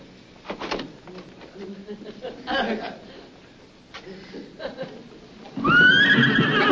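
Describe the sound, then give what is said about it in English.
A loud horse whinny bursts in near the end, shrill and wavering, from a horse inside a building at an army post. Before it come scattered indistinct voices and light shuffling noises. “Colonel, are you responsible for that horse in there?”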